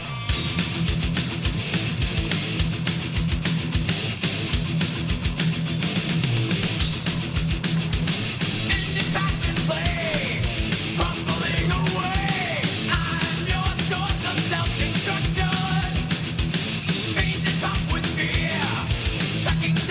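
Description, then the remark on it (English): A heavy metal song blasts continuously, with dense distorted electric guitars, pounding drums and a steady driving rhythm, loud and unbroken throughout, with no talking over it. “Here they come with rip roaring sound, rip roaring electric sound.”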